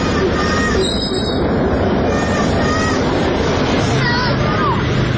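Children shriek and shout while playing in a park, a boy of about 4-5 kicking a small rubber ball at a goal, their high-pitched cries rising now and then over a dense, steady wash of noisy background din that never lets up.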